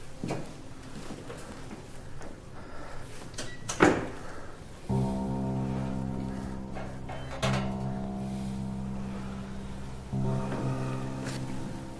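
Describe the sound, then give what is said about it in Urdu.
A door swings and is shut by a visitor entering, with a single solid thud preceded by faint scraping movement, then a steady low mechanical hum continues to the end. No one speaks. “اندر آ جاؤ، اندر آ جاؤ، دروازہ بند کرو اور بیٹھ جاؤ.”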